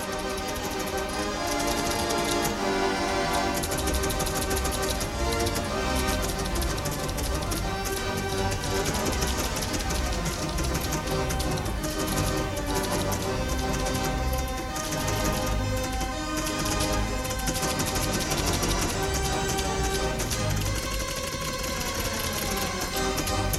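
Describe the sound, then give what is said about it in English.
Rapid mechanical clicking from the electromechanical relays of a Wurlitzer pipe organ, heard in its relay room, chatters steadily, layered over sustained organ tones played throughout without pause. “You heard the relays clicking and so forth as to how they work.”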